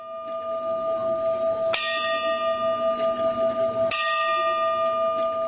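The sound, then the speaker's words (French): A clock bell that strikes every quarter hour, its signal transmitted by satellite, rings two resonant strikes about two seconds apart, each bright metallic tone ringing out and lingering into the next over a low steady hum. “L'horloge sonne tous les quarts d'heure, le signal étant transmis par satellite.”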